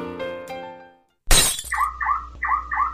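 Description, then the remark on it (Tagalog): A sudden loud crash of car window glass being smashed in a car break-in breaks a short silence, followed by four quick, high electronic chirps in a steady rhythm; a fading musical tone precedes it. “Uy, han, ninanakawan yung kotse ng brad mo, oh.”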